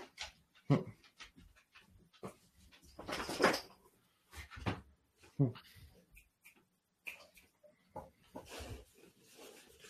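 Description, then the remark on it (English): A dog waking up from a nap stirs, panting in short breathy bursts with rustling and shuffling movement between them, the sounds coming irregularly across the whole stretch. “My dog decided to wake up from his, you know, 12th nap of the day.”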